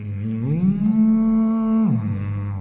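A single long, loud cow moo, rising into a steady drawn-out bellow before sliding back down, with no voices around it.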